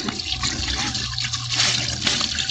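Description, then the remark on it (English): Steady rush of running water with splashing as someone splashes water onto their face, lasting a few seconds with no voices. “I better splash some water on my face.”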